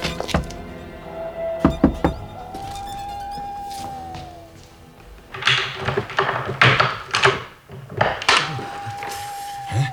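A few sharp knocks rap on a wooden house door, fairly loud, followed by a busier stretch of thuds and rattling movement, with no one speaking.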